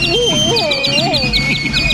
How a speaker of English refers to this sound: Feed the canaries, Waldo. Sure, Unc. Here, Dickie Bird, have a sandwich. Two canaries and a dog are so much trouble.